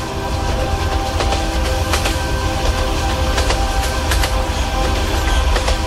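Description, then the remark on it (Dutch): A train rumbles steadily past through a tunnel, with a loud, dense low roar and irregular rail clicks and clacks, forming the base of a piece of music. No voices are heard. “Het is ook een stuk eigenlijk waarbij dat de trein door een tunnel rijdt.”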